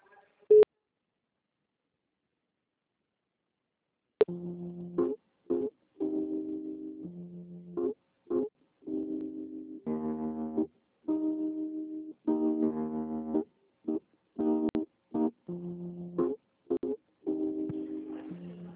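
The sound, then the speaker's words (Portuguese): Tinny electronic telephone hold music heard on a phone call while waiting for a system: a simple melody of steady, buzzy tones in short bursts and longer held notes, following a few seconds of near silence and a brief click. “Que tá tocando uma musiquinha?”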